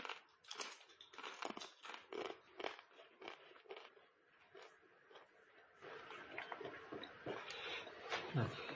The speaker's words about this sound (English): It was really crunchy, but that's probably actually what the bread was similar to. When you think about the bread Jesus had with his disciples, it would be very flat and very crispy, I would think